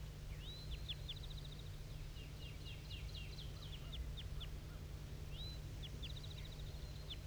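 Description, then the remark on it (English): A wild bird gives high-pitched flight calls, recorded at 7:34 a.m.: a rising whistled note followed by a quick run of short chirps, repeated twice over a steady low rumble, with no talking. “So recording at 7:34, still hearing tons of flight calls coming from this bird.”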